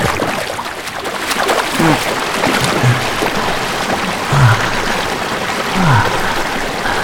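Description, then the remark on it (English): Steady rain patters onto a river, a dense hiss of tiny drops broken by a few low, bubbly plops and gurgles as water moves. No one speaks. “That's a bit cold, but there's something about the raindrops hitting against the surface of the river, and feeling the earth, and feeling nature all around us, that makes the fire that burns in my chest burn a little bit hotter.”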